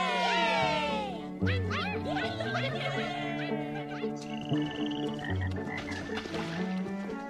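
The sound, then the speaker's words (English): A loud, busy chorus of frogs croaking together at a pond, with overlapping calls and rising chirps over a steady low drone, continuous throughout. “We're on our way to Hot Frog Pond.”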